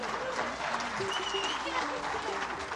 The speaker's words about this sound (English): I believe this is our fourth trip as a group to the town of Westcliff, Colorado, and we like it an awful lot. We also sneak through here and hike, but yes, you can applaud for that.